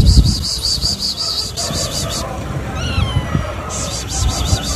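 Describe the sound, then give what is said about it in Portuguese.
A lost kitten in rubble gives one short, rising-and-falling meow in the middle, against a rumbling outdoor background with a steady, high-pitched pulsing chirp that drops out briefly, then returns. Recorded in Petrópolis, Brazil, during searches for missing people after a disaster, February 2022. “A reportagem encontrou esse gatinho perdido em meio aos escombros.”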